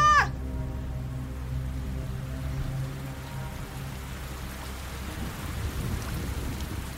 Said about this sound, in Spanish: La lluvia comenzó a caer, empapando a las tres mujeres y llenando de lodo el suelo.